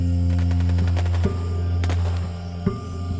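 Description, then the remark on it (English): A few sharp gunshots crack out at irregular intervals over a steady low rumbling drone, with no voices present; the shots are fired just after midnight in a nearby town. “And it was just after midnight when they heard the gunshots in the nearby town.”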